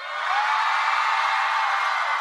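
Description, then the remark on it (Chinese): A large audience at a live event in Vancouver screams and cheers loudly and continuously after being asked to scream louder, a dense, sustained roar of many voices that swells in and holds steady for the whole moment, with no one speaking over it. “那我们要再大声一点尖叫声。”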